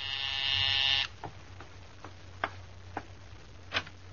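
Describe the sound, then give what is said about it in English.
The doorbell of a small apartment in Upper Manhattan rings with one loud, harsh electric buzz lasting about a second, then cuts off, leaving a handful of sharp, scattered clicks over a steady low hum. “Take such an ordinary little thing as the ringing of a doorbell.”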